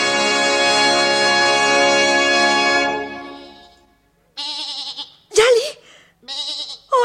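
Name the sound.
goat bleating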